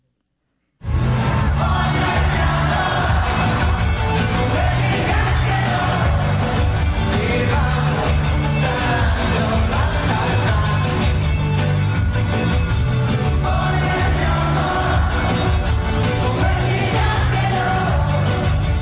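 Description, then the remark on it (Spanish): A massive crowd of more than 60,000 at the Estadio GNP erupts in an ovation after a duet on the second concert night, with yells, whoops and shouts merging into a dense, loud roar that starts abruptly and holds steady without pause for nearly twenty seconds. “Ovación, pues, tremenda. La verdad es que enloqueció el público, los más de 60,000 pelados y peladas que estaban por ahí reunidos en este recinto maravilloso.”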